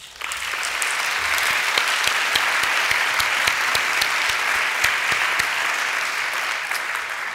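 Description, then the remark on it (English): Sustained applause from a church audience honoring a long-serving volunteer, a dense steady patter of many hands clapping at an even level throughout, with no voices standing out above it. “Bobby couldn't be here, but let's applaud her.”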